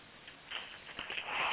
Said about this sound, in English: Extra sniff for the newcomer.